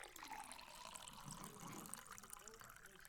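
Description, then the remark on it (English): A waiter pours water steadily into a glass at a dinner table for a few seconds, a soft continuous splashing with a faintly rising pitch, set against a low murmur of background voices. “The waiter comes and pours us a glass of water.”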